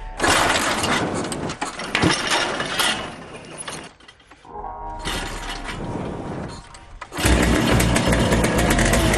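The small motor of the High Flyers team's golfing machine sputters and rattles through start attempts, dips briefly, then catches and runs loud and steady, with a harsh mechanical clatter throughout.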